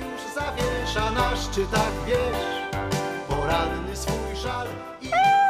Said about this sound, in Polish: Być może ojciec Szaraka, jak sam …, życie spędził w ciągłym ruchu i był znany w kocim świecie ze swojej kociej muzyki.